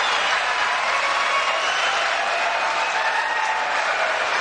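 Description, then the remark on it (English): A large audience claps steadily throughout, a loud, dense wash of applause with no pause or change in intensity and no voices rising above it. “I cut out about a minute and a half of applause.”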